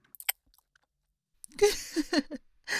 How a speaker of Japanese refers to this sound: このままうちの咀嚼音で人生終了魔女射精しちゃうか。